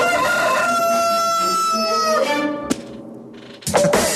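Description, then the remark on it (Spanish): A rooster crows loudly, one long drawn-out cock-a-doodle-doo, followed by a sharp thump and a brief burst of noise; it is the rooster call of the radio station Radioactiva. “En este radio se escucha El Gallo de Radioactiva.”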